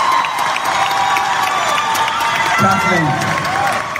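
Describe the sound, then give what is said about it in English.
A large crowd at D23 cheers and shouts wildly in a steady, loud roar as Ewan McGregor walks out on stage, with scattered applause and rising excited yells, sustained throughout without a break. “So obviously Ewan McGregor is walking out on stage right now at D23, so that's why the crowd is going nuts.”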